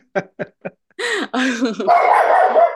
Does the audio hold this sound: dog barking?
yes